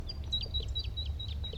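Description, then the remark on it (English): A bird calls in a quick, steady run of high, thin chirps, about eight short notes in under two seconds, over a constant low rumble of background noise. “Here comes a bird.”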